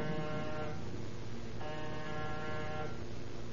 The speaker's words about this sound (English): Name's on the door. And push the buzzer.